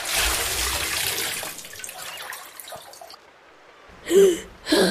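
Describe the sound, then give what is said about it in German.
A loud splash of something plunging into sea water just off the coast, a bubbling rush that fades over a couple of seconds into near silence, followed by two short, sharp gasps. “Das Nächste, was der kleine Fisch sieht, ist etwas, das direkt über ihm ins Meer eintaucht und auf ihn zukommt.”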